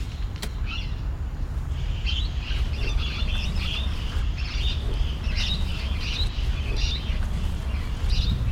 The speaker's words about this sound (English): Those were parrots. I heard parrots. At least I think I did.